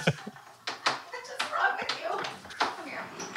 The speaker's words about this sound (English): The dog's going to be in here in 1 minute. I know. He's like crawling in.